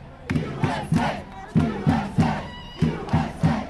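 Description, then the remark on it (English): A crowd of American soccer fans in the streets of Vancouver, celebrating a Women's World Cup championship, cheers in a loud, rhythmic chant: three sharp shouted beats, repeated three times in quick succession, with a murmur of voices beneath. “And next, to the streets of Vancouver, throngs of American soccer fans brought traffic to a crawl there yesterday. They were celebrating a Women's World Cup championship.”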